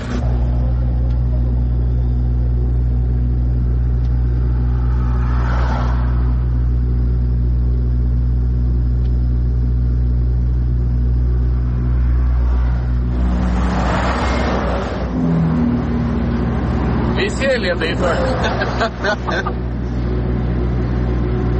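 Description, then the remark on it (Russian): A car engine idles with a steady, deep hum while the car is being repaired in frosty weather, then revs up partway through, followed by clattering bursts of noise toward the end. “Рок-звезда чинит машину.”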